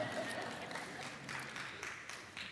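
An audience claps steadily, a dense, even wash of many hands that holds at a constant level for a couple of seconds without building or fading.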